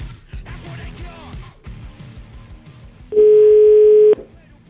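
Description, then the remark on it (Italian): A loud, steady telephone dial tone hums for about a second as Radio 24 places a call to the CARC, cutting in late over a rhythmic background music bed, then stops abruptly. “Io farei una telefonatina a questi signori del CARC”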